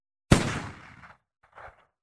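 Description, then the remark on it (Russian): A single sharp gunshot cracks out loudly and rings off in a fading tail, followed a moment later by a softer, muffled thud. No voices are heard. “Услышал я выстрел, и только потом ощутил страшную боль.”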